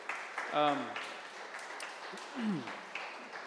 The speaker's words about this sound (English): This is what I want you guys to do. First of all, give them a round of applause if you enjoy them.